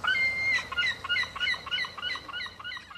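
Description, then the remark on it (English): British seaside seagulls calling over and over in a busy, overlapping chorus of sharp, yelping cries, clear, with no voices present. “Seagulls are here to stay.”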